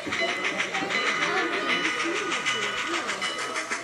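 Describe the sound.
A model train's bell clangs in a quick, steady rhythm while its whistle sounds at a model train club, the tinny ringing carrying over murmuring voices in the background throughout.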